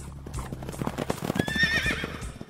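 A horse's hooves clip-clop in a steady rhythm, and partway through the horse lets out a loud, high whinny over the continuing hoofbeats.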